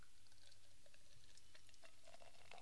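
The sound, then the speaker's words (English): An Imperial IPA of 10% ABV is poured from a can into a glass with a soft, steady fizzing and small splashing bubbles, quiet, with no one talking. “This, I'm going to pour it in a glass.”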